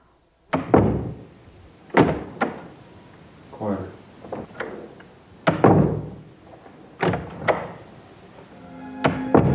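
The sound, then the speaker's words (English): A series of heavy door slams, the doors of director Francis Ford Coppola's house recorded for the final scene of The Godfather: around seven or eight solid thuds spaced a second or two apart, each with a short reverberant tail, some louder and some softer. “For instance, 25 years ago, for the final scene of The Godfather, when Michael Corleone closes the door on his wife, Murch recorded all the doors in director Francis Ford Coppola's house, listening for the door slam that would signify betrayal.”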